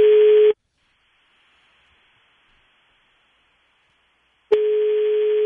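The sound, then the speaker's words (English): A phone line rings on an outgoing call: a steady ringback tone cuts off, leaves about four seconds of faint line hiss, then sounds again, loud through the earpiece. “It's ringing.”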